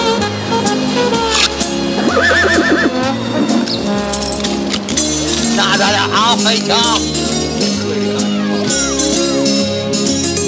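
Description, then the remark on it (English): A horse whinnies a couple of times as it is given some carrot, its wavering neighs rising over a steady bed of background music, clear. “He stands in front of the horse and bites the end off the carrot. He gives some to the horse.”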